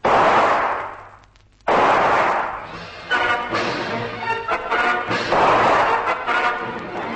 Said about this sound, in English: Von Stahlheim whips his gun out and blazes into the mangroves.